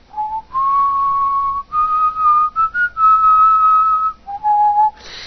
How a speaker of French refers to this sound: Si vous êtes assis avec votre blonde devant un coucher de soleil et que la seule chose qui vous vient à l'esprit, c'est de siffloter.